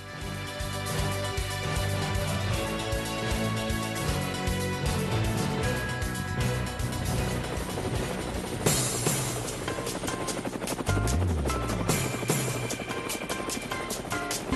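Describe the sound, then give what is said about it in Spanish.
Helicopter rotor blades thump in a steady rapid chop, loud, with a dense roar of engine noise and what sounds like music layered over it throughout. “Amigos de Cuba, las aspas del helicóptero sí no tienen ningún miedo y tienen fuerza y tienen gasolina”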